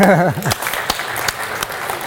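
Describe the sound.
A brief voice opens, then a group claps: sharp, irregular handclaps that quickly settle into a steady, moderately loud round of applause.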